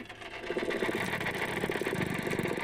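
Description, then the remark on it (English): Underwater dolphin sonar sounds in a lagoon: a dense, rapid train of tapping clicks, the tapping said to come from a perch, runs throughout, with a fainter creaking, ratchet-like buzz beneath them, steady and continuous with no voices. “Under the tapping sound coming from the perch, you can faintly hear what sounds like that creaking door or something like a fishing rod being reeled in.”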